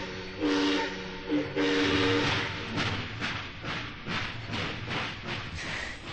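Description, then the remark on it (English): A steam locomotive's whistle blows in two sustained blasts, followed by rhythmic, hissing chugs of steam as a first-class train pulls along in the United States of America, loud and unaccompanied by voices. “A first-class ticket on a first-class train in the United States of America.”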